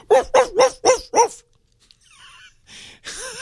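recording of dogs barking

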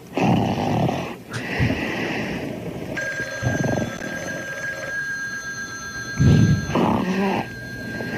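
snoring

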